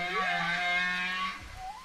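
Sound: whale vocalizations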